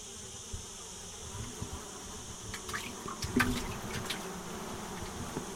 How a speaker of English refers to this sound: The flies are loving the water being splashed.